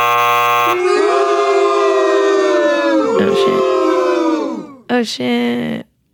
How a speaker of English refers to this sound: all of you guys at home that are thinking that this guess is stupid, when the buzzer goes off and tells me that I'm right, I just want you to say that you're an asshole and you need to go back to biology.